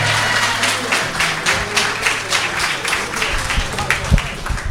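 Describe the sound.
A crowd applauds steadily as a singer is introduced on stage, dense clapping filling the space for several seconds with a few louder cheers and voices mixed in.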